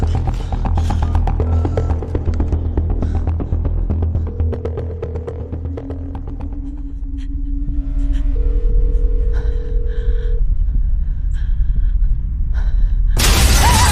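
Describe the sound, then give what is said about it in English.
A house window shatters in a loud, sharp burst at the start, with scattered bright glass fragments tinkling after, then a low rumbling drone and steady tones fill the rest. No one speaks. “The window shatters and she ducks through the hallway and hides in a corner.”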